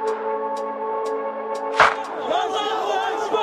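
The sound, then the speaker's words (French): A steady droning backdrop with faint regular ticks, then a sudden loud burst as an Egyptian crowd erupts into overlapping shouts and cheers, crying "God is great" at President Mubarak's resignation, carrying on, dense. “La foule explose, crie Dieu est grand, comme si la démission du président Moubarak était un miracle.”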